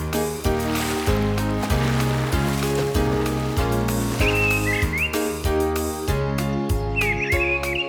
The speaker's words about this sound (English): you say that water was splashing in the lake, and then the birds were chirping very early at daybreak.